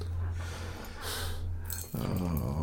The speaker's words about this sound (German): Ich habe mir vorgenommen, an dieser heutigen Tetit-Folge ausschließlich durch erschöpftes, ein bisschen passiv-aggressives Atmen teilzunehmen.